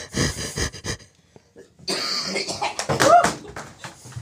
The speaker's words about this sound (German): So, Achtung, ich huste. Hört man es trotzdem? Ja, aber nicht so laut. Aber hört man den Schleim? Hm. Ja, das war der Schleim.